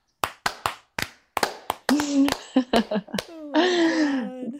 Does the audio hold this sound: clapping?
yes